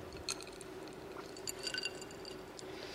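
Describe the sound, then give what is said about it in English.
A glass of water is handled, with a few light clinks and a soft wet sip against a steady low hum. No one speaks. “Oops, where's my water? There it is.”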